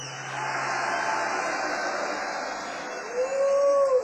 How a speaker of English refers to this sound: maybe you guys should give XRT just one big growl for the record